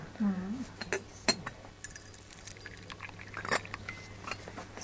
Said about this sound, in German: Eingeschenkt wird neben dem Kluntje und der knirscht ganz leise, wenn die heiße Flüssigkeit kommt. Die Tasse wird auch nie voll geschenkt, nur 3/4 voll.